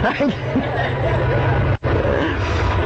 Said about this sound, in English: So what I have seen, that's a long train.